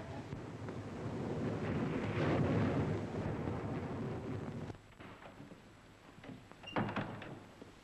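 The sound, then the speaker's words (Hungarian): A loud, roaring rumble swells and holds for several seconds, like rolling thunder with wind and rain during a night storm, then cuts off into quieter rustling and a few sharp knocks. “A vihar is az eső miatt nem tudott lejönni szegényke.”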